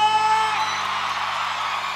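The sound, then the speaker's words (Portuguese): An audience shouts and whoops together in a loud, sustained burst of cheering that fills the whole two seconds at a steady level, with no pause or letup. “E quem gostou dá um grito!”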